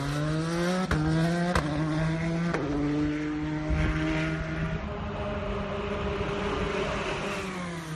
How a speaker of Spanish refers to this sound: Por cierto, ese sonido que veis es un sonido que ha grabado nuestro compañero Miguel Sanz del diario Marca, y ahí sigue de fondo sonando. Es un zumbido de carreras. Y ahí sigue sonando.